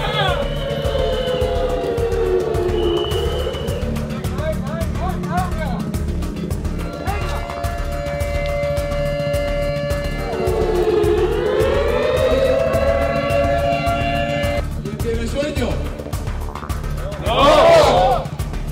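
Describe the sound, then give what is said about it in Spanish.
A wailing wake-up alarm siren at 6 in the morning on day 2 of a camp, waking youngsters in their cabins, rises and falls in long, loud sweeping tones, cycling twice over a steady low hum, with a brief burst of noise near the end. “El día 2 por primera vez se despiertan con la alarma a las 6 de la mañana, durmieron bastante poco y se empieza a notar el despertar tan de repente, el tener que salir de un salto con presión, golpes en las casetas y el ruido horroroso”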